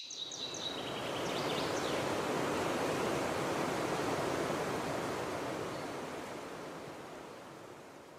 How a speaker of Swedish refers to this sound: Floderna består av rent kallt dricksvatten. Man hör ljudet av vattnet som forsar. Vackert också.